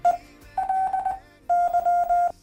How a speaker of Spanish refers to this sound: ¿quieres saber cómo suena tu nombre en Morse?